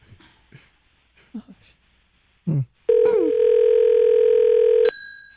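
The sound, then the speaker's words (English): After a few brief, faint vocal sounds, a loud, steady telephone dial tone drones for about two seconds, then cuts off into a short, high electronic beep. “Oh, it's Bubba on the phone.”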